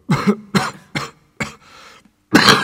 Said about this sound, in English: Suddenly the miner began to cough violently, covering his mouth with a dirty handkerchief.